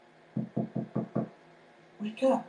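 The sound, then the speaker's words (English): Five quick, evenly spaced knocks on a sleeping pod, solid, to wake someone from a nap, followed after a short pause by a brief spoken call. “I will go personally. I will knock at your pod.”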